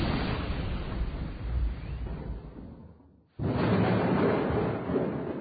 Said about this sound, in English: One stormy afternoon, I was walking home from school. Suddenly, there was a loud crack, and lightning hit the ground in front of me.